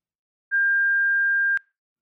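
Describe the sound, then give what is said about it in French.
A single voicemail beep on the voicemail of the Auberge du Lac: one steady, pure high-pitched electronic tone held for about a second, cut off with a soft click, then silence. “Veuillez nous laisser votre message après le bip sonore.”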